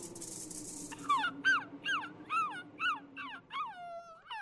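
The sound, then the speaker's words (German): A young fox whimpers and whines, about eight high, falling, nasal cries in a quick, steady series, the last one drawn out longer, over a faint low hum. “Sie hörte, wie der kleine Fuchs winselte.”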